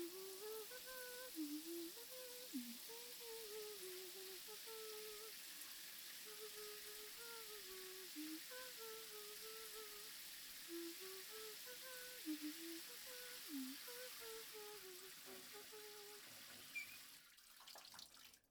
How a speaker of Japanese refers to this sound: シャワー浴びたんだ。